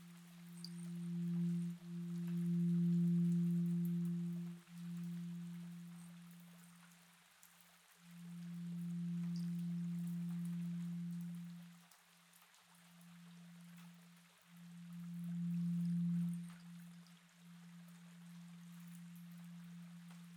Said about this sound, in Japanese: 不思議な音がするじゃろ。この音は鐘が震える音じゃ。